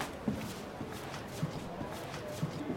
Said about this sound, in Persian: نمای داخلی دادگاه. البرز با نگرانی در حال قدم زدنه.